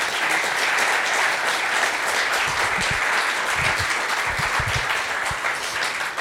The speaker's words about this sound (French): Donc, je vous remercie tous les trois. On peut les applaudir quand même.